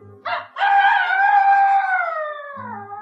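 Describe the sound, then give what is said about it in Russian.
A rooster crows once, a short clipped opening note followed by a long, strained drawn-out call that slowly falls away at the end. It is loud, with no talking over it. “Я говорю только кукареку.”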